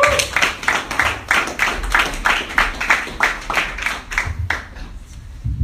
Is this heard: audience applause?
yes